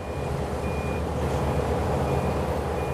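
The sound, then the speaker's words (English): In Russia, a bulldozer running over rounds of banned Western cheese sounds its reversing alarm, a steady, high-pitched beep about once a second, repeating over the loud, continuous low rumble of its diesel engine. “Bulldozers running over rounds of cheese, workers incinerating boxes of frozen bacon, and journalists from Russian state media breathlessly cheering the process on.”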